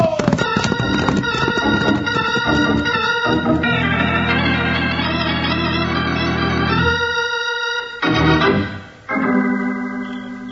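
Horses galloping hard as riders race back to the town of Angel's Fork in a western drama: a quick rhythmic clatter of hooves at the start, soon carried under loud swelling music that holds sustained chords and then briefly breaks off near the end.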